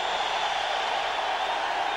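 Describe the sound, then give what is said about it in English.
A huge stadium crowd cheers as the New England Patriots are introduced as American Football Conference champions, a dense, steady roar with no single voice standing out, holding at a constant loud level for the whole two seconds. “So again, pretty staggering to hear folks cheering for the Patriots like that.”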